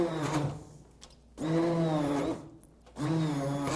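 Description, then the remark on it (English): An electric blender whirs in three short pulses, its blade chopping food, the motor whining loudly with a gritty chopping rasp, briefly dropping to near quiet between each burst. “So the way to work with this, obviously there's a blade in there, right, that's chopping it, but the work is also mechanical in a way that you use it kind of like you're mashing potatoes”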